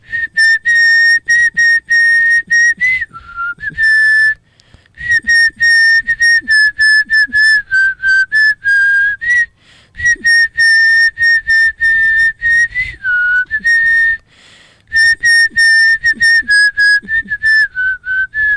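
A person whistles a Christmas tune, a steady, loud melody of clear high tones with short breaths between phrases and faint low rumbling underneath.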